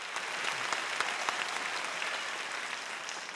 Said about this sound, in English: Two women in the crowd smile broadly as they clap.